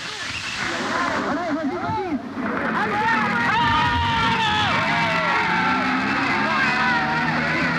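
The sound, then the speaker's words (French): A large crowd of at least 2000 people roars and shouts outdoors, a dense wall of overlapping voices with occasional yells and whoops rising above the steady, loud hubbub. “Dehors, une foule d'au moins 2000 personnes grondait.”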